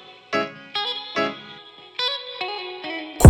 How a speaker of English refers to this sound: Yo, turn that reverb up a little bit.